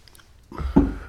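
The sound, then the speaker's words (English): A speaker pauses to take a drink to wet their throat: a brief, wet slurp, rising after a quiet moment into a low gulping swallow with a soft squishy edge. No one speaks. “Excuse me for just a minute. I got to wet my goozler.”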